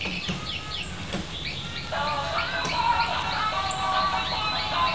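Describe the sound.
A young voice mimics a bird call with a series of quick, high chirping sweeps, then holds a steadier whistled tone over a faint background hum.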